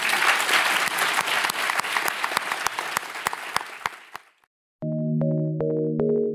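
An audience at an LSE event claps in steady, loud applause for about four seconds, then it fades out and a short burst of sustained musical tones follows after a brief silence.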